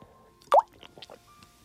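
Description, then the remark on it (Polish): A single wet gulp as someone sips water, followed by a few faint mouth clicks and small liquid sounds in otherwise quiet surroundings, with no talking. “No właśnie, łyknęłam troszkę wody.”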